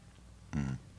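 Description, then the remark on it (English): A single brief sip of wine from a glass, a short slurping sound in an otherwise quiet moment, with no talking. “Let me have a little sip of this now.”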